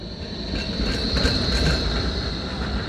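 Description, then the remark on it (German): A tram rolls past at Hackescher Markt, a steady heavy rumble of wheels on rails with a thin, sustained metallic whine above it. No one speaks. “Die Straßenbahn fährt am Hackeschen Markt vorbei.”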